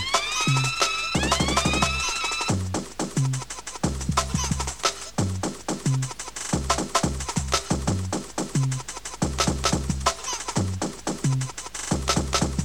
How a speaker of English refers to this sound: Sounds of the siren.